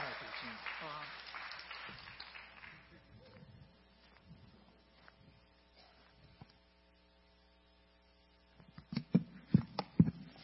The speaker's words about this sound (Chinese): 再一次掌声好不好？来鼓励鼓励他们，让他们充满勇气上来。